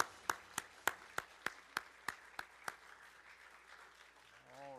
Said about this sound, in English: And so let's give another round of applause for our graduates.